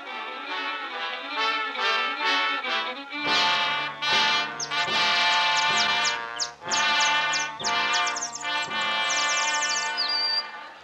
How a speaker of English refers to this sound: You know something? I hear birds singing. Well, sure. It's morning, pal.